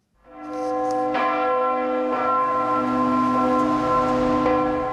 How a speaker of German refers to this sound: Die Kirchenglocke läutet aus Protest. Protest aus Zürich gegen Entscheid aus Chur 1990.